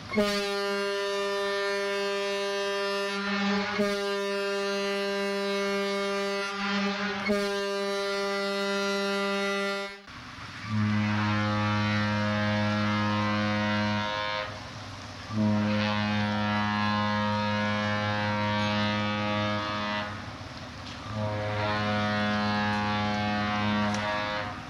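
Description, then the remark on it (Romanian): Long, loud ship horn blasts in two sets of three as two ships leaving the port of Southampton salute each other: first a steady mid-pitched tone, then a huge Southampton-based cruise ship answers with a deeper, booming horn of three sustained blasts. “ne-am încrucișat cu uriașa navă de croazieră, Britania, bazată tot la Southampton, și ne salutăm reciproc cu 3 sunete de sirenă, sunetul grav al celei din urmă, amintindu-ne parcă de Titanic, dar nu și de soarta lui tragică.”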